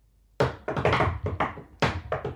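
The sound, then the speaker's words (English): A rhythmic pattern of about nine sharp knocks on the door of a home, fairly loud, grouped into quick bursts with short pauses, a coded secret knock done to get the door opened, with no voices. “I have to do the secret knock to open the...”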